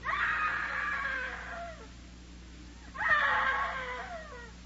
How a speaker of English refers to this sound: Oh, I know I heard her scream. I know it. Darn, darn, darn. You are there. You are there. Hey, screaming woman.